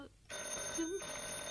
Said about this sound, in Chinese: 咁， 诶，听电话先。